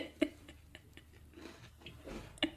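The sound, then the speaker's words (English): Crunchy chewing of a biscuit eaten in one go, right over the microphone, with sharp crisp bites and softer mouth sounds repeating irregularly, fairly quiet overall with a couple of louder crunches. “Don't chew over the microphone.”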